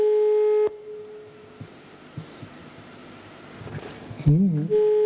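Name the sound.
telephone ringing tone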